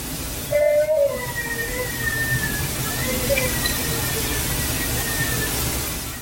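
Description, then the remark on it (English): A baby crying outdoors at 12 o'clock at night in the middle of winter, at the edge of a tree line: thin, drawn-out wavering wails rise and fall over a steady hiss of background noise, with no voices talking. “hearing this baby crying.”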